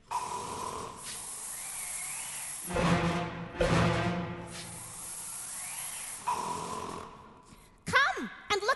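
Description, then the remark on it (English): Two loud, rasping snores rumble, separated by long hissing breaths, with a softer airy wheeze at the start and end and a brief squeaky noise near the finish: the Red King snoring as he sleeps in a wood. “It's only the Red King snoring, said Tweedledee.”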